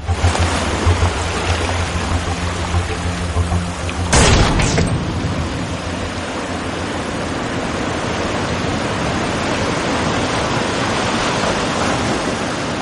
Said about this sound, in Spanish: Santo Dios, Jesús, esa explosión, parece que estamos en un enorme buque, pero esa explosión que hemos escuchado, ¿a qué se debe?